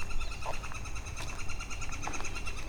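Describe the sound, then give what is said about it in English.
Brief bird chirps sound faintly outdoors over a steady background hiss, a couple of short calls spaced apart rather than a continuous song. “Another chirpy bird.”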